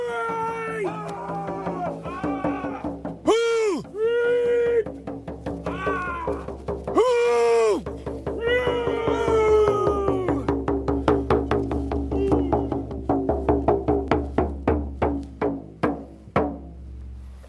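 Ceremonial breathing vocalizations during a carving dance at a potlatch pole raising, breathing life into the pole: a loud voice makes drawn-out calls that swoop up and down in pitch, then breaks into a quickening series of short, forceful breathy pulses before stopping.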